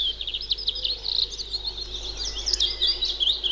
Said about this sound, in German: Und das eine Schnepfe. Klingt schön, klingt harmlos.